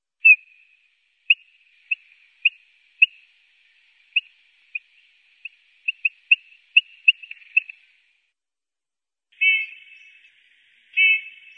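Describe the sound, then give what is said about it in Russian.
Eurasian bullfinch calls, from a bird-voices recording disc of the Institute of Plant and Animal Ecology, Ural Branch of the Academy of Sciences: a series of soft, short piping whistles at an irregular, quickening pace, then two longer, fuller whistled notes after a pause, heard clearly on their own. “иногда посвист, знайте, что, скорее всего, где-то рядом, высоко на дереве, сидит снегирь, а может быть и несколько.”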